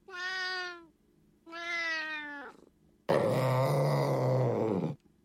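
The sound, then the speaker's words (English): A female cat meows twice in clear, harmonic cries, then lets out a longer, louder, rougher yowl. Fairly loud, with no talking. “I think my cat likes you, although you are sitting on her chair.”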